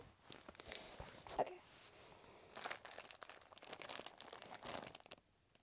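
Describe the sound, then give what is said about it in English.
Crackly crinkling of plastic packaging being pulled and torn open, a dense run of sharp rustles lasting several seconds with a brief louder snap near the start. “Should open with my teeth.”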